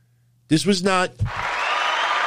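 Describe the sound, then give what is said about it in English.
A loud shout rings out, then a small live wrestling crowd, not piped in, bursts into sustained cheering and clapping as Eric Rowan hits the ring, a steady roar that keeps going to the end. “Listen to the crowd, as small as they were, erupt when Eric Rowan hit the ring.”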